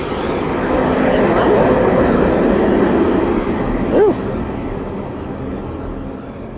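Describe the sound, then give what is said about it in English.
A big truck rumbles past, its loud, steady roar filling the whole moment before easing slightly, with a brief squeal cutting through near the end. “Oh my goodness, here goes another big stinky truck.”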